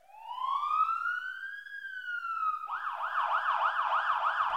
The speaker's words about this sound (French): Fait que ça, quand on entend ça, là, puis qu'on est avec papa et maman, là, dans l'auto, papa, il conduit l'auto, puis on entend ça, ce gros sirène-là, c'est quoi qu'on dit à papa? Tasse-toi, papa, sur le côté. Laisse la voie aux pompiers